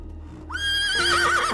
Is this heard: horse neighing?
yes